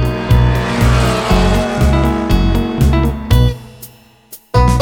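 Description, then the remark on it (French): A powerful car engine roars, a big motor that goes 200 km per hour, its loud revving rising and falling in quick repeated surges like gear shifts, then cutting off briefly before roaring back. “Elle va à 200 à l'heure, car elle a un gros moteur.”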